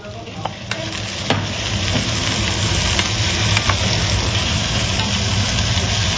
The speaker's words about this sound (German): Sarah und Christa einen wunderbaren Spargelrisotto gemacht, der in der Pfanne gezischt hat